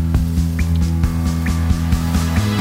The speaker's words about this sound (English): But drip, drip, drip. It's the rain. We like the rain. Again and again. Drip, drip, drip.